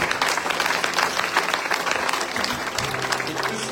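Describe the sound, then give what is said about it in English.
An audience applauds five people in a sustained burst of dense, overlapping clapping that stays steady and fairly loud for a few seconds, with a faint murmur of voices beneath it. “We give those five people around the applause, God.”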